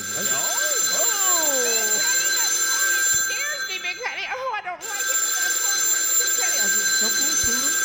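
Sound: telephone ringing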